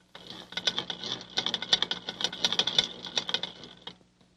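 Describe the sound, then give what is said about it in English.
A pencil sharpener runs for about four seconds, a steady motorized whir with a rapid grinding rattle on top, fairly loud, starting and stopping abruptly with no talking. “But this is a pencil sharpener. I'm going to show it to you. First of all, listen to how it sounds.”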